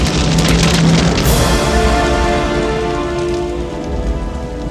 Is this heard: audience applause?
no